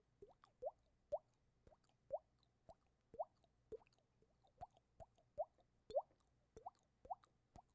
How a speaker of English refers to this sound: Oh, but there's dripping water.